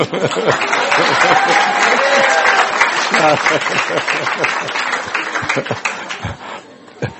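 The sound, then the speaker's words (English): A crowd applauds, a dense wash of many hands clapping at once, loud and sustained for several seconds before thinning out toward the end, with some voices mixed in. “Applause.”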